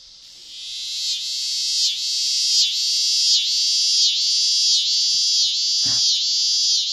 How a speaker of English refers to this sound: A really good example is the scissor grinder cicada, which is track 63.